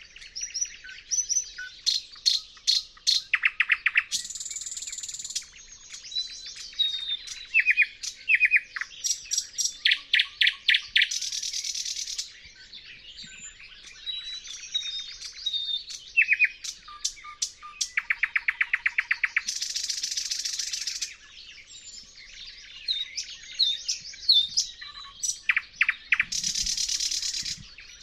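bird song

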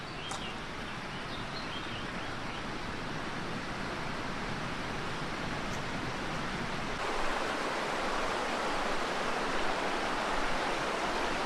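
mountain stream flowing water

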